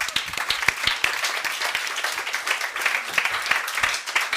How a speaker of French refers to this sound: On peut l'applaudir.